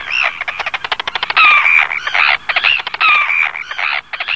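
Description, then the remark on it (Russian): Arctic terns call loudly and continuously, harsh grating cries and rapid rasping chatter overlapping, with a few thin squealing notes rising above the noisy flock. “Знакомься, полярные крачки перед нами.”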